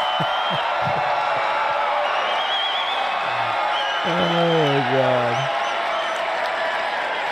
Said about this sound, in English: The crowd thinks Trump is saying, in summation, as your president, right? He's saying, I'm here today as your president. And the crowd cheers.